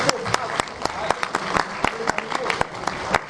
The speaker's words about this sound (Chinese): 好，大家请你们用掌声欢迎